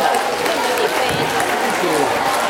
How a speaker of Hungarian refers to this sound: Na, itt vannak a tudálékosok, egy tapsot a tudálékosoknak, légy szíves!